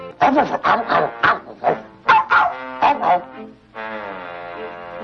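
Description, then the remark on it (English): A dog gives a quick run of short barks and yips, about eight bursts in a row, followed by a brief pause and a drawn-out whining howl. “Dog talk.”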